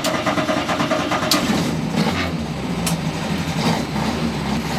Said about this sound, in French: Ben voilà, un petit moteur.